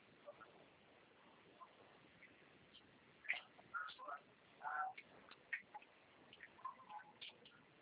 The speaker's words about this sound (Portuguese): Tá pingando